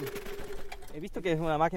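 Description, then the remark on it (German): A self-built lawnmower powered by an old washing-machine motor, used by a man mowing a large meadow in Matanzas, Cuba, about 80 km from Havana, hums and rattles steadily, then a man's voice speaks over the running engine. “Das ist ein Rasenmäher, der mir die Arbeit leichter macht.”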